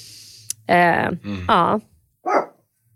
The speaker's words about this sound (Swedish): Vilket grovt skall den där lilla hunden har ändå. Låter mycket större än vad den är.